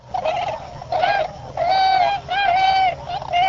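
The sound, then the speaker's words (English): Repeated hooting calls from a large migrating bird, several mellow, slightly nasal notes in a loose series, fairly loud over a faint background hum. “It's kind of a hoo hoo hoo calling. It's definitely just not a trumpet, not an owl, somewhere in between.”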